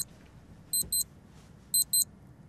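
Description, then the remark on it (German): A digital alarm clock beeps in quick double bursts, two pairs of sharp, high electronic tones about a second apart, clear over a faint low background rumble, going off at five to seven on a Sunday morning. “Der Wecker läutet, schnell aufstehen, einen Kaffee rauslassen und dann ab vor den Fernseher, weil um 7 geht's los.”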